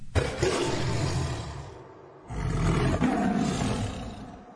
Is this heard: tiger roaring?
yes